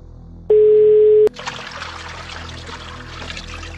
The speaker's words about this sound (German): Sie geht davon aus, dass er sich im Waschraum des Flughafens befindet, weil sie lediglich ein Plätschern im Hintergrund hört.